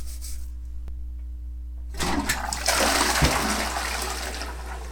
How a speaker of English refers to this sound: Here are some sounds I recorded while cleaning up in my house. First, you will hear scrubbing and then flushing the toilet.